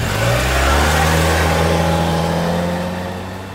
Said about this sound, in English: She drove away as fast as she could.